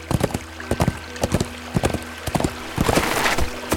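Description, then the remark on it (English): Hooves of a bay horse galloping under a rider heading south at a steady pace, hitting the ground in quick clustered beats of two or three, fairly loud over a faint, steady background hum. “Already it was dark, and while he couldn't take the trail until first light, he kicked the bay horse into a gallop, riding south.”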